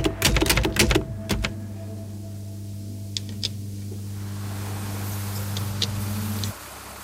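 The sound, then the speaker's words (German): Construction work at the Paderborn technology park in Germany: a burst of sharp clattering knocks, then a steady low machine drone with occasional metallic clicks, until the engine noise cuts off near the end. No one speaks. “Bauarbeiten am Paderborner Technologiepark, einem von insgesamt 30 in Deutschland.”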